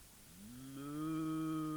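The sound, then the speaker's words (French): A single cow moo from Amélie the cow, in a zoo cage at night, starting low and swelling into a loud, drawn-out, resonant bellow that holds steady to the end, with no other sounds around it. “Meuh, fait Amélie.”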